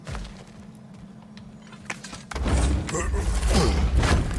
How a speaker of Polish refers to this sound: I te absolutnie satysfakcjonujące dźwięki. Ta gra jest tak cudownie, słuchajcie, udźwiękowiona. Te wszystkie, wiecie, uderzenia toporem.